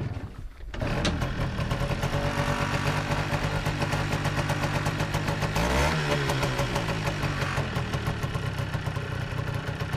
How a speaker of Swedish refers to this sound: Vad är det för motor det här? Ja, det är en kasalmotor. Ja, den var en liten enhästare och otrimmad, som det kanske lät. De som förstår sig hörde att det där var inte någon trimning. Men den går ganska bra.